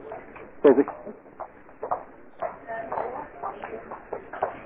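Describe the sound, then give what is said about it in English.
Irregular footsteps tap and shuffle in the background, a few sharper steps standing out, beneath muffled, indistinct voices on a slightly noisy line. “I can hear footsteps in the background, I can hear all things.”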